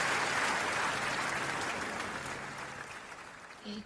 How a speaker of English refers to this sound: Okay, go with the clap, I like the clap. Ooh, I love, live audience.